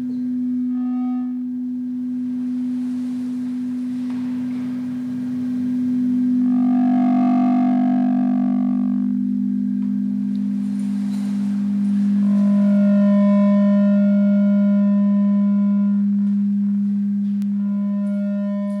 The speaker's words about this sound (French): Donc, ce qui se passe dans Two Listening Rooms, c'est que c'est un phénomène de Larsen. Hein, vous l'entendez, j'imagine. Alors, la Larsen, finalement, reflète effectivement une fois de plus l'espace résonant.